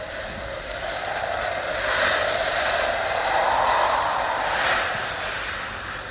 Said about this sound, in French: Oh, il y a beaucoup de vent. Écoutez-le chanter.